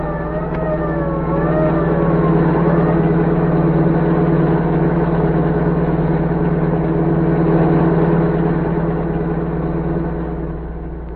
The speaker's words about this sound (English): As the general's car sped toward the border, orders cracked out.